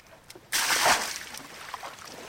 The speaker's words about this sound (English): Okay, the yacht is fixed. Well, sort of. Give me a hand to scoop out the water that got inside.